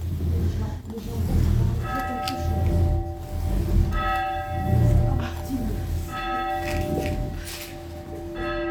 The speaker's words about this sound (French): il n'y a plus personne qui sonne les cloches. Alors, est-ce que pour l'émission, oui, nous pourrions sonner la cloche? Vous tirez. Alors, on va essayer de tirer parce que ça m'attire, cette... Voilà, tirez. Alors, est-ce que... Fort, la cloche.